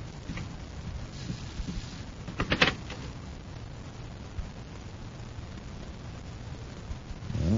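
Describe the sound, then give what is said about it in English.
A magna key turns in the locked door of Vogel's home, giving one brief, sharp clunk of the latch against a steady background hiss, followed by quiet low rumbling and a soft swell at the end. “I'll try the door. Locked. We'll use the magna key and have a look around.”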